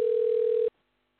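A telephone line tone while a call is placed on another phone: one steady, mid-pitched electronic hum lasting under a second, then cutting off abruptly into silence. No one speaks.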